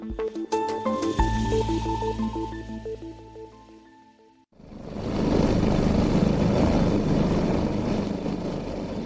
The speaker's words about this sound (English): A helicopter chopping through the air high above Pakistan's mountainous northern region, where a terrifying hanging-by-a-thread drama has been playing out.